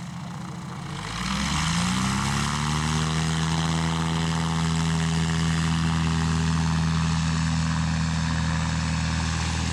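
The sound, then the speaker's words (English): A propeller airplane engine overhead, at a small airport with a grass runway, revs up within the first couple of seconds, then holds a loud, steady droning hum with a strong buzzing tone throughout. No one speaks. “Yeah, there's a plane up there somewhere.”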